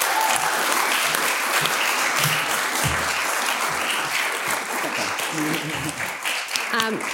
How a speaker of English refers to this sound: Okay, round of applause for the wonderful chefs.